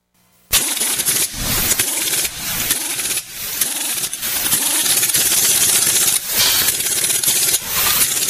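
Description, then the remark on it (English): After a brief silence, a pink Cadillac's engine abruptly starts and roars loudly, revving in uneven surges before settling into a steady, rumbling run, with no voices. “Thank you, Eddie, the engine emailer. Oh, that pink Cadillac, though.”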